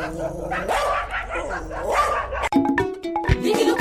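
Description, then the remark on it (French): Several stray dogs in the Central African Republic bark and yip in an overlapping, irregular chorus, with a faint whimper among them and busy outdoor background noise. “Des foyers de chiens et d'autres bêtes domestiques en divagation continuent de causer des désagréments et problèmes de santé publique en République centrafricaine.”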